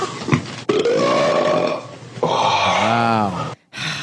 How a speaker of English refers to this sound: Fucking start sending me some gassy ass beans so I can make these farts even bigger. Yes. I challenge any of you think you can fart bigger than me.